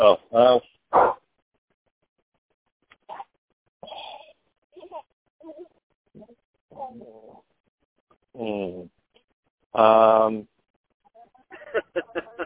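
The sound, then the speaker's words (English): A dog barks several times, a quick cluster at the start and louder, drawn-out barks later, with faint, scattered voices in between. “You know, I got a kid in one ear and a dog barking in the other.”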